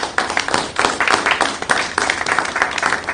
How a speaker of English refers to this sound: Brian's not here today, but I think he deserves a round of applause from the council.